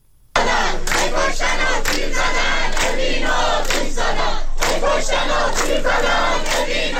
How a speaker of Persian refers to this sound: دانشجویان دانشگاه خلیج فارس بوشهر با شعار هی کشتن و تیر زدن، اوین رو آتیش زدن، اعتراض خود را به حملات نیروهای امنیتی و حکومتی به زندانیان زندان اوین ابراز داشتند.